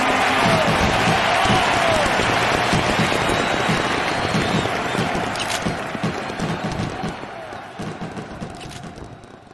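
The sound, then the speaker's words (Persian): A large stadium crowd of fans roars and claps for Diego Maradona in a dense, continuous wash of cheering and applause that stays loud before gradually thinning out toward the end. “بریم با هم صدای تماشاگرها و صدای مارادونا رو تو اون روز خاص گوش کنیم.”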